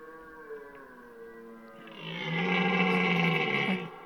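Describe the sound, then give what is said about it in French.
A male red deer stag bellows during the rut in a forest, a long, hoarse, roaring call that swells louder and rougher midway before cutting off, with no voices present. “Et toujours le brame du cerf. Le cerf, et c'est le mâle qui brame.”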